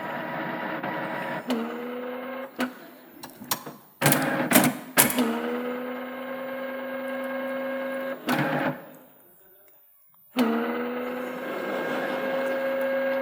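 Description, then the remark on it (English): A printer, switched on to print notes but failing to print, whirs in steady mechanical runs, broken by sharp clunks and clicks, a brief pause near the end, then the motor starting up and droning again, fairly loud with no voices. “the next time I'm dashing out to do a show and need to print my notes quickly, I'll just be able to turn it on, press print, and the fucking thing will actually print. Instead of just going...”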